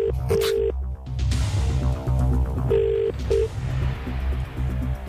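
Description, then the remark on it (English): A telephone ringing tone on an outgoing call made from a radio station in Dublin, two double-pulse rings about two seconds apart, heard clearly over a steady music bed with no talking. “It's ringing.”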